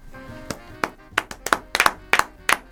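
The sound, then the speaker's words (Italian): Scattered applause: about a dozen sharp, crisp claps in an uneven rhythm, some doubled, rising above a soft hum of voices in the background. “E qui applausi.”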